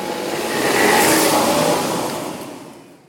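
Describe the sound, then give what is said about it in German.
A car engine revs up as a parent drives a child to school, the vehicle accelerating away, the rushing noise swelling to a peak before fading away. No voices are heard. “Nur weil ich mein Kind mal mit dem Auto zur Schule bringe, werde ich gleich angesprochen.”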